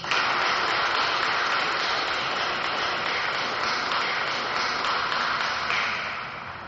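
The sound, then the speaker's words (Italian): A church audience at Mass applauds in a steady, dense burst of clapping that holds for several seconds before tapering off at the end, with no voices over it. “A lui un applauso.”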